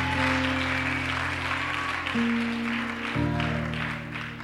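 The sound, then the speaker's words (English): An audience claps steadily in a dense, sustained round of applause for the fathers present, with no voices, while held organ or keyboard chords ring underneath and shift pitch twice. “Clap for all the daddies that are around.”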